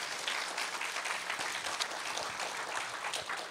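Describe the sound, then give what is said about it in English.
A church audience claps steadily for several seconds, applauding the church body, a dense, even wash of many hands applauding at a constant loudness with no voices standing out. “So I really think that we need to give the church body a round of applause just for just how amazing this group and these kids are in this season.”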